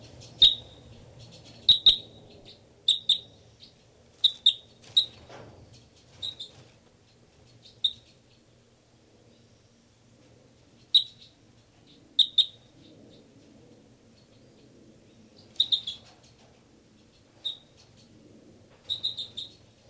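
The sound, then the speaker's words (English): Captive bird number 318 sings in its cage during a recording, in short, high, bright chirps, some single and some in quick clusters of two or three, spaced irregularly over a faint low hum, with no talking. “This is the song of bird 318.”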